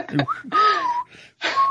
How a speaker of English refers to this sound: like, all right, let me get back to me when you choose a key, pal. Yeah, I mean, I can't whistle at all either, so I'm not really in a position to criticize his whistling.